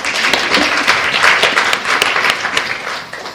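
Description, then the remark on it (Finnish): A burst of applause from a group, dense overlapping claps forming a steady bright patter that holds for a few seconds before thinning out toward the end, with no voices over it. “Annetaan aplodit.”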